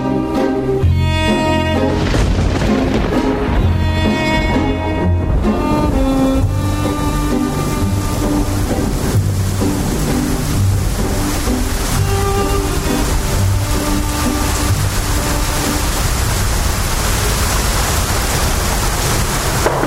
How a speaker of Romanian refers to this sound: A început și ploaia, nu vrei mai bine să nu vin?